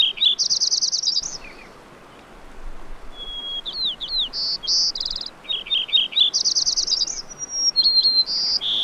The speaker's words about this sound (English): We're hearing two sparrows singing here, the Lincoln sparrow, which is sort of a bubbly song like a house wren, and the white-crowned sparrow, which has sort of a sad, plaintive beginning and then a trill.